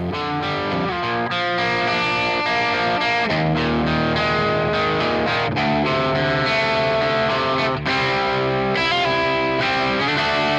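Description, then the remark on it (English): A mildly overdriven electric guitar, a Gibson 335 semi-hollow body played through a Helix amp modeler set to models based on Mesa Boogie and Marshall amps, plays a continuous, chordal riff with ringing sustained notes, loud throughout, with no voices. “And I did push the amp for this. There's some distortion here, but nothing like you'd hear on a metal tune or anything like that.”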